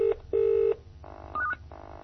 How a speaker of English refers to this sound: So I'm going to choose our home line now. It's a multi-line phone. And we've got a message waiting. We'll just go dialing into the out-of-sight number.